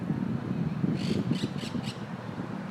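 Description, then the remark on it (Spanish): Birds flying above the treetops squawk in four quick, harsh calls bunched together, set against a steady low background rumble with no one speaking. “Esos pájaros que están volando arriba.”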